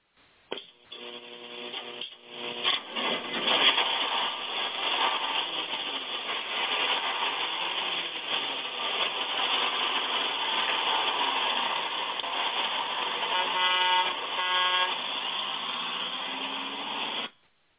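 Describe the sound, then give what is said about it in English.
A bus engine runs with a steady, noisy rumble for the whole stretch as the bus pulls out of an old station, and a horn honks in short blasts near the start and again toward the end. No one speaks. “as we pull out of the old station with the Six Eyes Gospel Bus”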